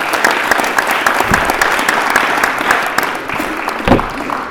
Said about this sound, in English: My mother's been sober for 86 years, and nobody's applauded yet. That's funny, because we usually don't applaud. You guys inspired that.